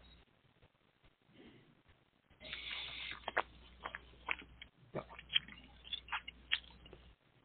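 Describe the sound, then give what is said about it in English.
Slurping sips of wine during a tasting, a string of short wet mouth sounds and small clicks over several seconds, with no talking. “Never judge wine on your first sip, but always a second. That first one was great.”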